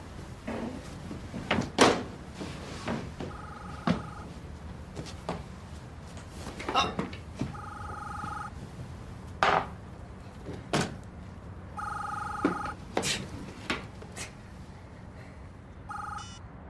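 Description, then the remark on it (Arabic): A telephone rings in repeated two-tone bursts, about four rings spaced several seconds apart, mixed with clattering knocks and door-like bangs. “ليش ما عم تردوا على التليفون؟”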